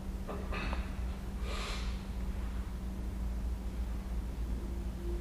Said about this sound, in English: You could consider the act of breathing one of sort of inflating and deflating ourselves. And that inflation, it supports our uprightness. So our lungs are like these balloons, you know, constantly inflating, deflating like this.